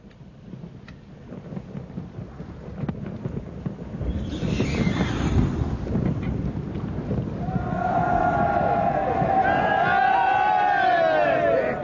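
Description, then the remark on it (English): A ship's crew of men cheers their captain over a steady low rumble and rushing noise. The wavering shouts swell up partway through and stay loud and sustained until the end. “They are cheering you, sir.”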